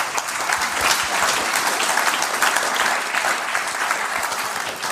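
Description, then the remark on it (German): An audience at a church district festival in Bünde claps steadily for several seconds, a dense, even wash of applause that stays loud throughout with no voices standing out. “Einen herzlichen Applaus an euch.”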